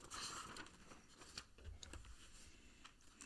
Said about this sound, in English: Oh, here it is. I got to go back a page. Yes, folks, I'm shuffling through paper.